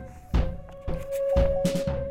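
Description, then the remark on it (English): Heavy, booming thuds of a front door being kicked open, three or four forceful impacts in quick succession with a low steady hum underneath and no voices. “He had a half-hour dry orgasm and woke up to the sound of the front door being kicked open.”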